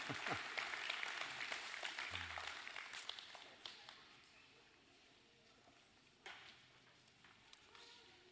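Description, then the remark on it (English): An audience applauds the kids as they are dismissed, a dense wash of clapping that is loud at first, then thins out over a few seconds into scattered claps and murmuring voices. “Big round of applause. Y'all clap for the kids.”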